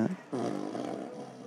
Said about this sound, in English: Is this 15, like, name that tune? 15 different farts that come with it.